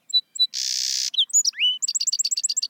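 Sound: song sparrow singing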